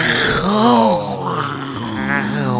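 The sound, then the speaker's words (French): A human voice imitates a lion's roar: a loud, drawn-out growling groan rising and falling over about three seconds, with a second rumbling swell at the end. “Le lion rugit.”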